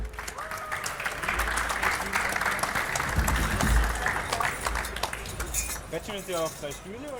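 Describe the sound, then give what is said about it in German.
A crowd claps steadily in a dense, sustained burst of applause for contestants called back onto the stage for a final, with some voices calling out near the end. “Ein großer Applaus für euch.”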